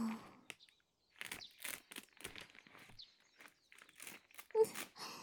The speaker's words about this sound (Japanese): じゃあ、ケープかぶせますね。よいしょーっと。マジックテープを止めてと。